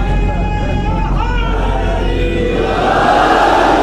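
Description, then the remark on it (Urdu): A large crowd at a majlis shouts a religious slogan together in one loud, sustained roar of many voices, with a rising swell of chanting toward the end. “یہ اب ہمارے ہاں رائج ہے, اور الحمدللہ اس نعرے سے کئی سونے والے جاگ جاتے ہیں, اس کا بھی ایک فائدہ ہو جاتا ہے.”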